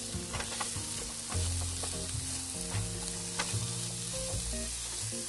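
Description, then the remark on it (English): Onion sizzling steadily in a frying pan, a dense crackling hiss with occasional louder pops and low clanks of stirring, continuous, with no one talking. “Hear that sizzle?”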